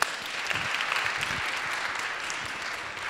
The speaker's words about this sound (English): Round of applause for Eric.